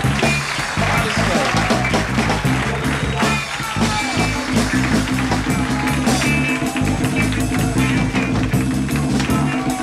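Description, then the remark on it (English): A live crowd applauds and cheers steadily for about ten seconds over band music with a heavy, pulsing bass line, while voices are heard over the noise. “Give my fellas a great big round of applause.”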